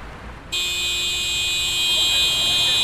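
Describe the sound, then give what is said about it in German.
Car horns in a traffic jam on the A100 motorway exit at Berlin-Tempelhof, in morning rush hour as climate activists block the crossing, suddenly start blaring after a brief moment of low rumble, merging into one loud, continuous, shrill honk that holds steady to the end. “Das Hubkonzert beginnt.”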